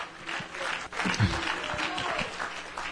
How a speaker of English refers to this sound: Oh, somebody say, clap your hands unto the Lord.